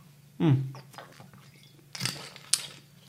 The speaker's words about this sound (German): Ich bin immer noch ein bisschen angeschlagen, da muss ich immer ein bisschen schlucken. Immer noch.